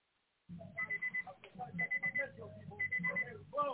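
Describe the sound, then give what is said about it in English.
An alarm beeps in rapid, repeating bursts in the background of a caller's phone line, a steady electronic pattern heard over a muffled, phone-quality line with low background noise beneath it. “We can hear you in your alarm in the background, caller.”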